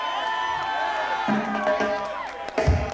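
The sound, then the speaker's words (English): A crowd cheers and whoops loudly, a dense wash of excited voices and high yells that holds steady, then swells into a louder burst right at the end. “That drove the crowd nuts.”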